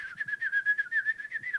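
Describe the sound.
Someone whistles a quick, warbling trill in imitation of small passing birds chirping, a steady high tone pulsing rapidly for a moment, clear with no talking.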